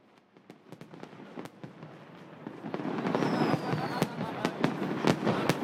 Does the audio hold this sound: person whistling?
no